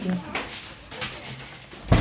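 A door is pushed shut, ending in a solid low thud, after a couple of softer knocks and shuffling movements.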